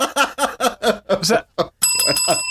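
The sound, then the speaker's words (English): A bicycle bell rings once, loud, its bright metallic tone ringing out at the end after a run of quick, rhythmic vocal bursts that sound like laughter. “Where's the bell?”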